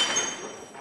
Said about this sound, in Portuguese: Partiu-se a louça.